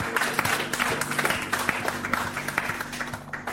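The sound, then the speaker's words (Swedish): A crowd gives Jesus a big round of applause, a dense wash of many hands clapping at once, with a low sustained musical hum underneath that continues throughout. “Ta ge Jeesus en stor applåd.”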